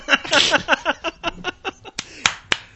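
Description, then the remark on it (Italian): Body percussion: a dense burst of overlapping claps, snaps and slaps that thins into a loose rhythm of single sharp hits, fairly loud, with no talking. “Ah, guarda, applausi di corpo.”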